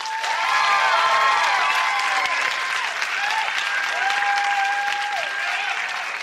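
audience applause

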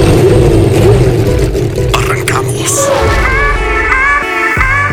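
racing car engines revving

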